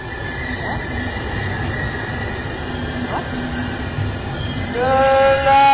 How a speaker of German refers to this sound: Da ist Ihr Zug.